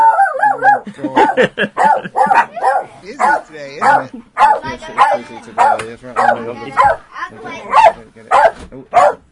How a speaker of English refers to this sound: Noisy dog, isn't it? Sorry. I've never known Magic's a dog to shout so loudly.